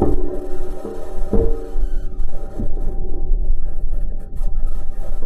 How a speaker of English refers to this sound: So, does the rover, as it's moving, make sound? Well, the answer is yes. Here it is, roving.